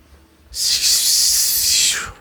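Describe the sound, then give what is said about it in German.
A single sustained hiss lasting about a second and a half, bright and airy, starting abruptly and holding steady before tapering off, with no voices around it. “Du guckst dahin, du versuchst diese Worte zu formen, aber du hörst nur eine Art Zischen.”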